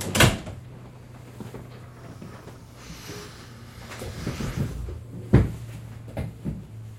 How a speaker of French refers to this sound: Ferme la porte et assieds-toi.